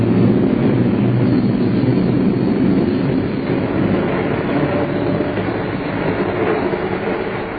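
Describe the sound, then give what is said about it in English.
A train rumbles steadily along the rails, a continuous loud low roar with faint rhythmic clatter, with no voices. “Time drags on a train.”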